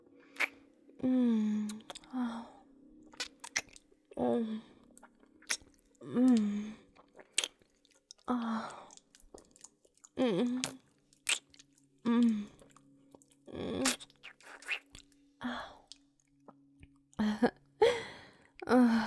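Wet licking and slurping sounds come in repeated irregular bursts, smacking and squelching, mixed with soft low hums between strokes. No words are spoken.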